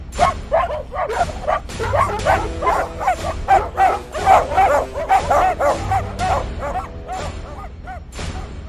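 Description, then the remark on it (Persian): Several dogs bark excitedly in a rapid, overlapping stream of yelps and yips, loud, with whiny high-pitched cries mixed in throughout, as they chase people fleeing along a shore. “گاهی برده ها از دیدن این صحنه ها چنان وحشت زده می شدن که در ساحل پا به فرار می ماندن و خریداران حریص با سگای خود اونا را تعقیب می کردن.”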